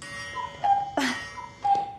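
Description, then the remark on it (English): A clock chime rings with two bright, sustained mid-pitched tones about a second apart, separated by a brief, noisy mechanical clunk. No one speaks. “She always said that the chime was good luck.”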